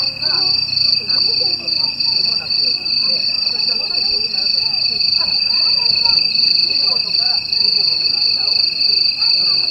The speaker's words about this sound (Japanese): 私が取材した時間は青戸平和公園に生息しているカンタンの鳴き声は聞くことができなかったのですが、ボランティアの皆さんが事前に別の場所で収録したカンタンの鳴き声を聞くことができました。